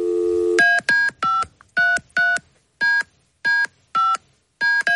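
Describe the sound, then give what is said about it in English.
A phone number is dialed to call Edmonton Oilers player Connor McDavid: a quick series of about ten short electronic keypad beeps in uneven bursts, following a brief steady tone at the start. No one speaks. “All right, let's call him.”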